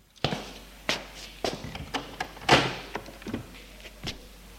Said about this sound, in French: Ils sortent de la chambre. Et ouvre une autre porte à côté.